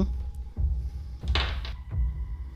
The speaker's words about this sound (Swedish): Ja, och sen så, då testar vi nästa. Knackar på nästa dörr.